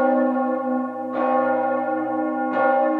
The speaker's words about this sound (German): Zum Beispiel können bereits feinste Risse dafür sorgen, dass sich ein Ton aufspaltet in zwei Töne mit leicht unterschiedlicher Frequenz. Die Folge: der Glockenton beginnt zu schweben.